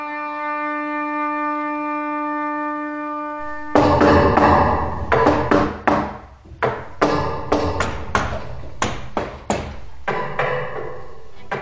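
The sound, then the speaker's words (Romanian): After a steady humming tone, a series of sharp taps and knocks begins, coming in irregular clusters of short and slightly longer strikes, as someone taps out Morse code on a hard surface. “Morse? Nu. Cum nu? Doar te-am auzit.”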